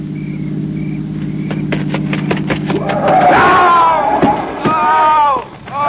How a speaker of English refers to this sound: Listen. It It's a car. It's got to be the one I think it is.